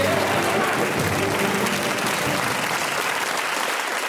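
A crowd applauds, a steady dense wash of clapping that stays loud for the whole few seconds, with a faint murmur of voices mixed in and no single voice standing out.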